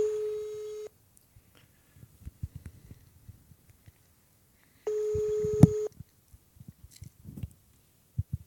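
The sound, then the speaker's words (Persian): Two steady electronic telephone tones, each lasting about a second and spaced a few seconds apart, come through clearly as a radio show host places a call to a listener during an open-mic segment. Faint clicks and handling noises fill the gaps, with no one speaking. “من دوستی بودن تماس گرفتم، من تلفنشون رو میگیرم.”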